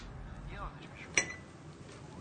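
A single bright clink of china, like a cup tapped against a dish, rings out once amid a quiet, muffled background as tea is being brewed.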